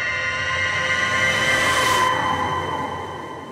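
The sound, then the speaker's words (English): A shrill whistle blares at 5 a.m. from the direction of Standpipe Hill in Tulsa, in one long, unbroken, piercing tone rich in high overtones, holding loud and steady for several seconds before easing slightly at the end. “As I reach the sidewalk, a shrill whistle sounds from the direction of Standpipe Hill.”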